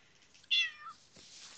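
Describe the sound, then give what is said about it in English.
A single short cat meow sounds fairly loud, a bright rising-then-falling cry lasting about half a second, followed by faint rustling in otherwise quiet surroundings. “You want in on this, cat?”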